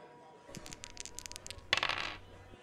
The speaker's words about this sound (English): Dice roll number four.